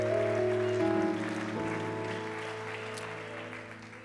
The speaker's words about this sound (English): Clap your hands one more time. Thank you, Jesus. Man, that sounds good. Why don't we clap just one more time unto the Lord?